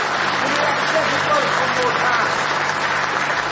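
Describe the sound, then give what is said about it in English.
A church audience claps in praise during a morning service, a dense wash of many hands applauding at even loudness throughout, with no single beat standing out and a murmur of voices mixed in. “Give Him another hand clap of praise this morning.”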